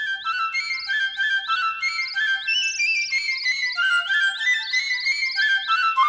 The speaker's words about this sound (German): Ich bin eine Nachtigall. Ich begleite die untergehende Sonne mit meinem Gesang. Man kann mich überall hören. In ganz Rosarien.